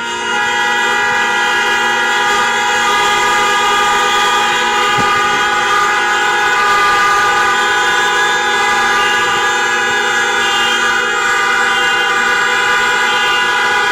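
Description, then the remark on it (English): City traffic noise, apparently in New York, dominated by blaring horns that merge into one loud, sustained droning chord lasting the whole stretch, steady in pitch and level, with no voices. “let me give you 24 seconds of city life traffic around the world.”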